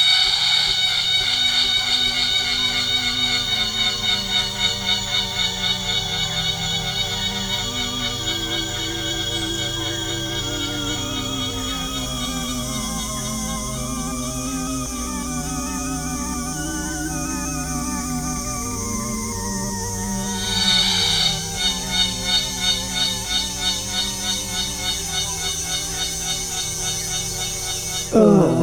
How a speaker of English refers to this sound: It's just so loud. Oh, that is the sound of a cicada. They create that sound using a timbal organ. These calls are used to attract females for mating. Each species has its own distinct call.